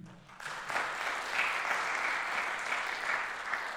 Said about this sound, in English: So if we could just have a brief applause of thanks for all that she does to make sure that this works in the COVID time.